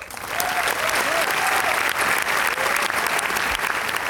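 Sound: applause sound effect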